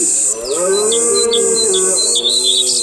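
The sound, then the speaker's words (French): Birds chirp in quick, repeated bursts, sharp and high, while a long, low lowing call like a cow's drones steadily underneath. Nobody speaks. “Rentre chez toi, on fait peur aux oiseaux.”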